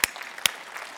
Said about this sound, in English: Yeah, clap.